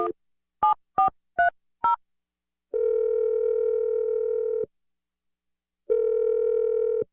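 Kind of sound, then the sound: signal or alarm, telephone dialing tones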